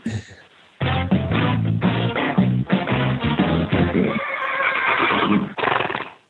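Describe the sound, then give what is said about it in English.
An event horse lets out a loud whinny: a long, shrill, quavering neigh lasting several seconds, then a short final burst before it stops. “my daily Winnie goes out to one Philip Dutton and his newest event horse”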